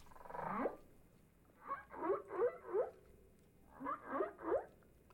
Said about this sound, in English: That's pretty cute. Those whales are like little puppies, so cute, like cats, mewling in their own little whale-like way.